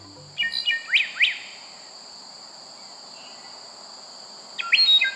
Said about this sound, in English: What's your choice for most beautiful bird song?